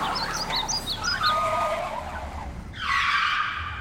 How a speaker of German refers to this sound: Aber dann war plötzlich Motorlärm von vielen, vielen Lastwagen auf unserer staubigen Landstraße zu hören.